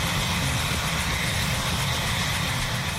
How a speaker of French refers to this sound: Plusieurs responsables gouvernementaux américains ont assisté ce mois-ci à un vol de démonstration de l'hélicoptère téléguidé K-Max.